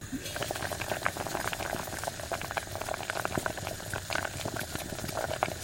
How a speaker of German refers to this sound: Jetzt kommen die Tomaten in das kochende Wasser hinein.